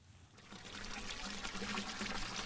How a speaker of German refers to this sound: An einer Durchgangsstraße gelegen steht ein kleiner Brunnen, aus dem klares Wasser plätschert. Hier beginnt die Freudenberger Altstadt